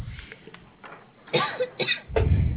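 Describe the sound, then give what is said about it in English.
A woman coughs into a telephone line as she picks up a business call, a few harsh, muffled bursts at the mouthpiece, the last one heavier and louder, with the narrow, tinny quality of a phone call. “Sorry, hey, I coughed in your ear.”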